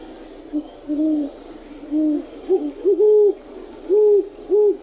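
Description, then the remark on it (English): Deep, soft, dove-like hooting of great horned owls, a rhythmic series of about eight low hoots with slightly varying pitch, two birds duetting back and forth, with no talking. “Their voice involves deep hooting as heard here.”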